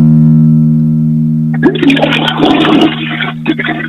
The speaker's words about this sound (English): Can you give us another flush? Maybe go to I'm going to go to the next stall. Here we go.